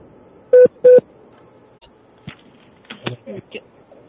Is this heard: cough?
no